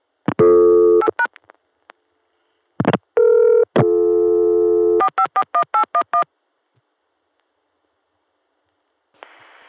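Loud telephone tones: a steady original Atlanta dial tone broken by a quick run of short dialing beeps, then a pause of near silence before a faint hiss of long-distance carrier noise rises as the call goes through to Chicago.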